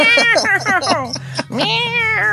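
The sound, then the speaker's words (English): A rapid run of short, loud cat meows, then a longer drawn-out meow, clear over a faint, steady low hum. “All right, we'll be back to talk about the cats.”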